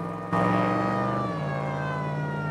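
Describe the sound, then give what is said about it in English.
A police car's siren blares in suddenly and stays loud as the car turns round on a highway and gives chase, its steady wailing tone dropping to a lower pitch partway through, with the rumble of the car engine beneath. “He passes a police car coming from the opposite direction, which swiftly turns round and gives chase.”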